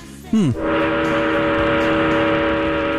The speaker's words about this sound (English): I especially like it when I hear the trains rev up their engines. It turns me on.